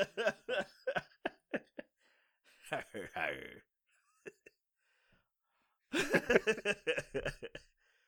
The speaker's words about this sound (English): So, you better get that, should get that cough looked at.